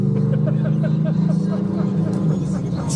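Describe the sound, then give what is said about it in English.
A souped-up truck engine roars past, a loud, deep, steady rumble with a rhythmic throbbing pulse running through it for the full three seconds. “It's a truck. Boom. Souped up.”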